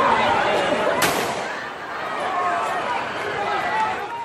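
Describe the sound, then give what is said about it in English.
Police firing tear gas and rubber bullets into a crowd on the streets of Charlotte, North Carolina: one sharp, loud bang cracks out early over a steady, agitated crowd din of shouting and voices that continues throughout. “Here is some sound from the streets of Charlotte, North Carolina, last night as police shot tear gas and rubber bullets into the crowd.”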